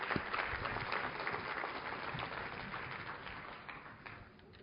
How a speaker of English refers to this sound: I'm going to ask the panelists to come up right now, and then we'll introduce them and get started. So a round of applause for the three panelists we have.